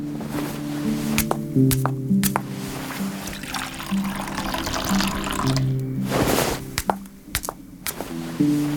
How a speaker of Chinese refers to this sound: 我去给你倒水。